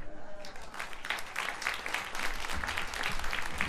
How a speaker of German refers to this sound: Begrüßen Sie mit einem herzlichen Applaus